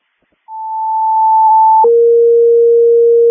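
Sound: radio dispatch alert tone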